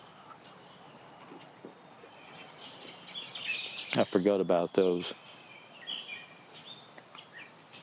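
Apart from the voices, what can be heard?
birds chirping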